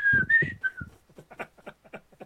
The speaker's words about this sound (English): But you can hear like the whistling like really clear. You go, yeah, I hear it. I hear it now really clear.